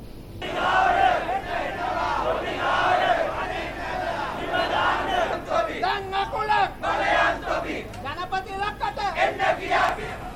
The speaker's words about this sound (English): Sri Lankan trade unions protest during a nationwide strike, demanding President Gotabaya Rajapaksa's resignation over the worsening economic crisis.